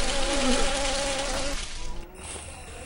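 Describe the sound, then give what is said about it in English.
A thin, whining mosquito buzz sweeps past, wavering in pitch for about a second and a half before fading, over a steady hiss of background noise. “Have you heard mosquitoes fly by you?”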